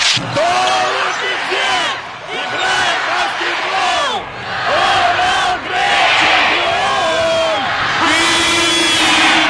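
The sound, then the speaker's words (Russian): A loud, dense crowd of sports fans chants and cheers continuously, with rising and falling shouted voices and a few sharp thuds beneath the roar. “Перед матчем во Франции все говорили, что французские болельщики Гравление неистовые какие-то, но по сравнению с «Молотом» это просто детский лепи, детская песня.”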